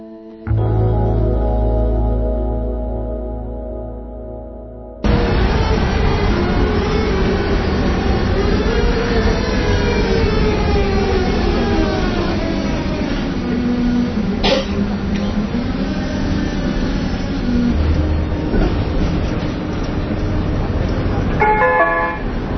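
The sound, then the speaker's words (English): A Prague tram clangs a short tonal warning, then rumbles along, its electric motor whining up and down in pitch over steady rattling wheels on the rails. “in order to convince you that the following events occurred in Prague in spring, we, the producers of the Harmony Frazier Show, will inject the highly realistic sounds of Prague trams.”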